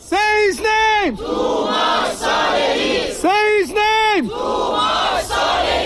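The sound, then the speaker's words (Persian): A large crowd of Iranians at a rally in Malmö, Sweden, in support of Toomaj Salehi, chants in unison, repeating a loud two-part phrase twice with a steady rhythm, each shouted call followed by a longer sustained chorus of many voices. “این هم حمایت ایرانی‌ها از توماج در مالمو سوئد.”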